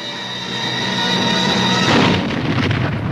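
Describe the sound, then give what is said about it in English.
A steady, faintly tonal hum gives way to a loud explosion blast at a schoolhouse about two-thirds of the way through, followed by a rough, rumbling wash of noise that lingers to the end. “Dr. Willers and the vicar look up at the sound of the blast.”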